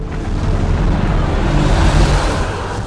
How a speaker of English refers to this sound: The first 7 minutes of Hereafter will knock your ears back. A huge tidal wave, the Indian Ocean tsunami of 2004, slams into a resort where a French journalist is shopping in a street market.